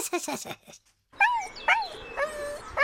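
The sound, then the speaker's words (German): A poodle on a walk whimpers in three high, wavering whines after a brief stretch of human speech, frustrated because it wants to go to a female dog ahead. The cries are fairly loud, each rising and falling in pitch. “Weint der jetzt? Ja, der möchte so gerne zu der Hündin da vorne.”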